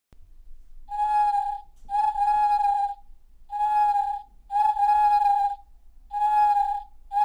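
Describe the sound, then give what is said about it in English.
A single owl pipe, the first of 50 owls arranged in five racks of ten on a steel frame with a keyboard underneath, sounds a steady, whistle-like mid-pitched tone in six loud, sustained blasts of one pitch, each about a second with short gaps, and no voices. “So we just heard the solo owl. It's a big instrument.”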